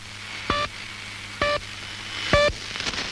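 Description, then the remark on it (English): Three short, evenly spaced electronic pips sound over a steady bed of radio static and low hum, each pip a bright, buzzy tone. It is the Pip radio station's repeating signal, with no voices. “What I think is the most fascinating one is actually a pair of them, the Pip and the Squeaky Wheel. Let's listen to the Pip.”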